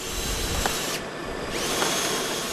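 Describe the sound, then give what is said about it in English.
A power drill grinds steadily as a worker bores into a wooden post on a rooftop in Puerto Rico to attach new cables, a continuous loud whir with a brief dip in pitch midway as the bit bites, with no voices. “One of his workers drills into a wooden post to attach new cables.”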